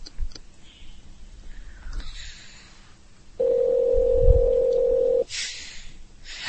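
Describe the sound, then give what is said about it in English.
A phone line rings once: a steady, buzzy ringback tone lasts about two seconds in the middle, surrounded by quiet line hiss and a few soft clicks, with no one talking. “Us being quiet while the phone rings.”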